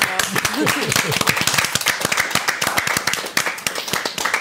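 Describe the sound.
A burst of studio applause, many hands clapping in quick, uneven rhythm at steady loudness, with a voice speaking faintly underneath at the start.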